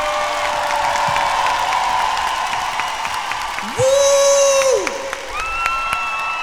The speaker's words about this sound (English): Round of applause for the dancers, everybody.